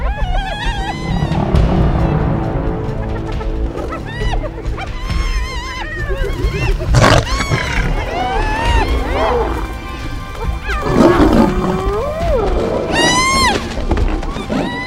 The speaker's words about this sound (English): So I want you to watch this video. So this is one lion against 20 hyenas.